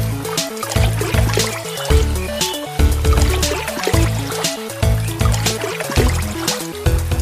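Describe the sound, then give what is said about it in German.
A babbling brook trickles and splashes steadily throughout, with bubbly gurgles and small drips and no voices. “Der Bach plätscherte vor sich hin und die zwei wären fast eingedöst”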